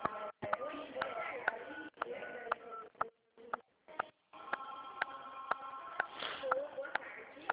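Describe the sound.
Telephone keypad buttons being pressed over a phone line, giving short steady beeping tones mixed with sharp clicks and a few dropouts, with muffled voices underneath.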